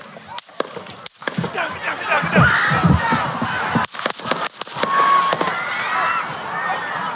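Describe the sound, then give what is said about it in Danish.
A series of sharp, loud gunshots rings out outdoors during a speech at a political rally in Butler, Pennsylvania, USA, on a Saturday afternoon, some in quick succession, while a large crowd erupts in screams and frantic shouting between and after the shots. “For ikke særlig langt inde i hans tale lød der pludselig skud.”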